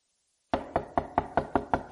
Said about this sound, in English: But if you keep on knocking, sooner or later, he's what? He's going to get up.